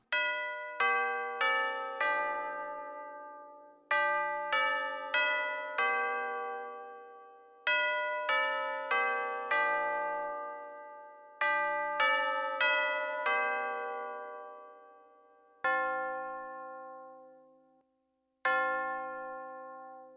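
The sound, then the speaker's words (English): A clock in Scrooge's room, in a telling of A Christmas Carol, chimes two o'clock: a four-note melody several times over, then it strikes the hour twice with slow, ringing bell tones that fade out between strokes. No voices are heard. “Clock chimed 2 o'clock.”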